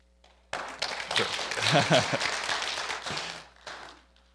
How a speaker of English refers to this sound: You know, you'd be getting a round of applause today